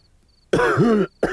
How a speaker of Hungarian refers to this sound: Megint köhög!